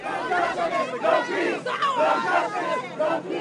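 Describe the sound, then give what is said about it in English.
A large protest crowd chants its disappointment outdoors outside a courthouse right after a verdict, many voices overlapping in a loud, continuous roar with brief dips between shouted phrases, while news helicopters hover overhead. “Most of the crowd stayed outside the courthouse immediately after the verdict, chanting their disappointment while news choppers hovered overhead and reporters swarmed in.”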